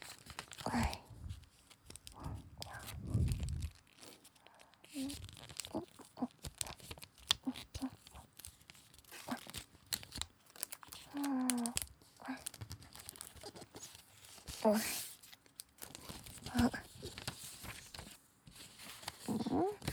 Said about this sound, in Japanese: 折り紙の音聞いてる？